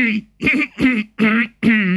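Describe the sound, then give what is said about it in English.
Five short, throaty coughs come in a quick, even rhythm, fairly loud, each one a rough voiced burst with brief gaps between them and no talking, made by a man in bed coughing on a doctor's command during an examination. “Cough.”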